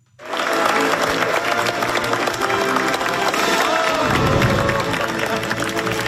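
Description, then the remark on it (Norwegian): A large crowd in South Korea's National Assembly gives a standing ovation as the newly elected president arrives to be sworn in: loud, sustained applause that rises quickly and keeps going steadily, a dense wash of clapping with some scattered cheers and voices. “Lee Jae-myung ble tatt imot med stående applaus da han kom til nasjonalforsamlingen for å bli tatt i ed”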